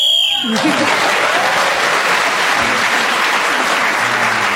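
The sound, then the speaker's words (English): A shrill, steady whistle blast sounds for about half a second as Clement Freud is speaking, then loud, sustained applause breaks out and continues evenly to the end. “So Clement Freud was then speaking as the whistle went, gained that extra point.”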